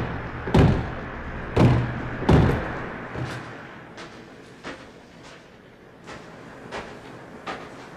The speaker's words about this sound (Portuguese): apressou-se em escalar os penhascos até à porta de ferro, cuja aldraba deixou cair pesadamente.